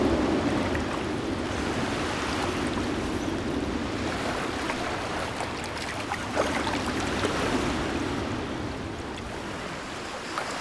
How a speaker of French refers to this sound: La marée monte. Puis se retire.